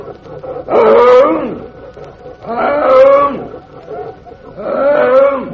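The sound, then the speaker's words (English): A man's voice mimics a tiger, letting out three long, loud, growling roars at even intervals, each swelling and fading with a harsh, throaty rasp. “Hear my hunger cry, my tiger hunger cry.”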